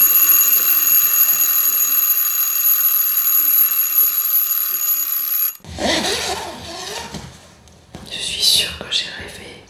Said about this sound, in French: Oh, bah le réveil vient sonner alors. Il est 8h30.